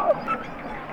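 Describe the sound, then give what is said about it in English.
Harp seals calling underwater, recorded by a hydrophone dropped a few feet below the ice, with a brief bright descending chirp over a dense, busy background of chattering and squeaky trills, fairly loud. “Those are all harp seals.”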